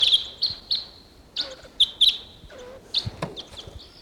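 wild bird calling

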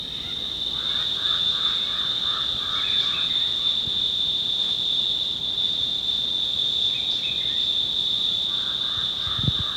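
cicada buzzing

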